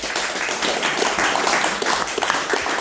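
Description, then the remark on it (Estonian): A crowd applauds steadily for the guests at the close of a panel discussion, including former minister Kaimar Karu, dense overlapping claps at a consistent, fairly loud level without any voices. “Aplaus!”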